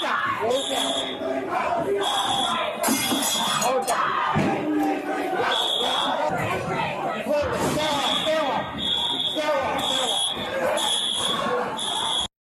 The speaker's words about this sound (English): They're not complying. Some are sitting quietly. Some are sitting yelling for Palestine. The cops are trying to disperse them and keep order.